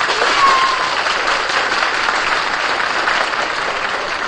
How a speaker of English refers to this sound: That bright little lift of sparkling ice-cold Coca-Cola does what every time? Why, it puts everyone at their applauding best.